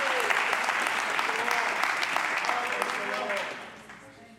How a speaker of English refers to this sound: Oh, let's clap our hands and thank the Lord for his word. Thank the Lord for his mercy.